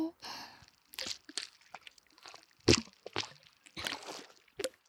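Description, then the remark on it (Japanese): Wet squishing of foam lather being spread thickly on the face under the nose, a series of irregular soft smears and sticky crackles, with one sharper burst midway and a brief voice-like hum at the start. “お鼻の下、たっぷり泡塗って。”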